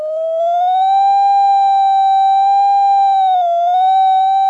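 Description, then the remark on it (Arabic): A light tester's steady electronic bell tone whose pitch climbs gently at the start as the light grows stronger, then holds high and loud, dipping briefly before recovering. No voices accompany it. “الآن لاحظوا أن صوت النور ارتفع، صوت الجرس ارتفع، هذا معناته أن النور علي.”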